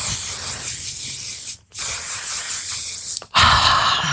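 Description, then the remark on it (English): Three hissing bursts of a makeup setting spray mist, fairly loud, each lasting over a second with short silent gaps between them, no talking. “I'm doing just a setting spray because I also forgot one.”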